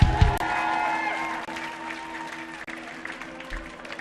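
An audience claps in a sustained round of applause for a band's lead guitarist at a live music performance, a dense, steady wash of hand claps that stays fairly loud throughout, with a few faint cheers and a bit of background tone mixed in.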